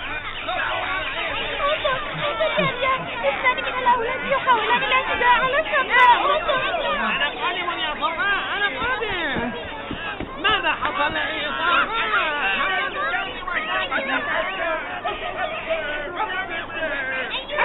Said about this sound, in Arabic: يا أحبائي سمع رياض صوت صفاء وهو يصرخ. انتبهت وداد أيضا، وكذلك انتبهت مائدة. نظروا كلهم إلى صفاء فوجدوه وسط اثنين من الأولاد وهما يتشاجران، وكان صفاء يحاول أن يصرخ لكي ينقذه رياض.